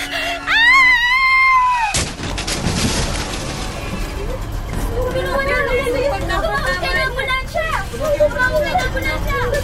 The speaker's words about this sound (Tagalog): Tatawid na ako ng kalsada. Nasa kabila yung paradahan ng tricycle papunta sa amin. Diyos ko! Mabubundan ako ng kotse!